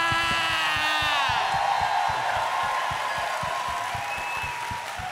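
audience cheering and shouting

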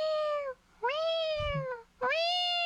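cat meowing

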